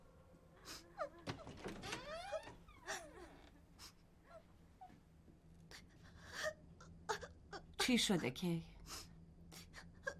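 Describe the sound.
A child, crying since the morning, cries and sobs in wavering, breathy bursts, with a louder outburst near the end; a voice briefly speaks in between.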